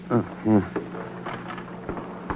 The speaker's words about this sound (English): That's it, Marshal. Get the elevator door.